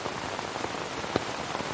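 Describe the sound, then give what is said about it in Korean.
Heavy rain pours down steadily onto the ground in the dark, a dense continuous hiss broken by scattered louder splats of individual drops, with no voices. “오로지 빗소리만 온 천지를 흔들 뿐이었다.”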